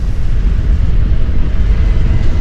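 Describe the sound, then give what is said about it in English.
A sustained, thunderous roar of a mammoth sheet of ice and snow giving way in an avalanche in the Canadian Rocky Mountains, in darkness close to midnight during a storm, above buried railroad tracks: heavy deep low rumbling and a broad hiss, loud and steady throughout, no voices. “In the darkness above them, a mammoth sheet of ice and snow gives way.”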